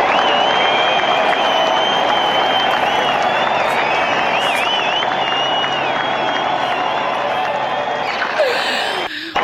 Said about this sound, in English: And we are going to give you, we are coming back with the applause button because she deserves the applause button.